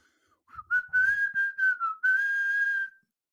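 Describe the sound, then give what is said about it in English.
A person whistles a short, wavering tune of several connected notes as an intro, ending on one long sustained tone, fairly loud with no talking. “By whistling.”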